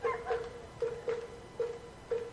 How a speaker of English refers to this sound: It is dog night here in Clearwater, so you'll be hearing the pups yap throughout the evening, which we encourage.